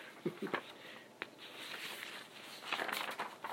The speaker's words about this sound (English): I have to shuffle all my papers.